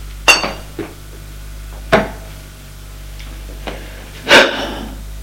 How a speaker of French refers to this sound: On frappe à la porte et soupire, pose la bouteille et les deux verres.